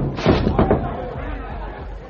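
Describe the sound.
A heavy barrel of molasses, hanging from a boom on a dock, crashes down after its rope breaks, in a quick cluster of loud, booming thuds, followed by a low, steady rumble and faint murmuring voices as the noise settles.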